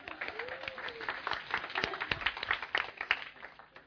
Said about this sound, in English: A little two-finger round of applause for our readers, please.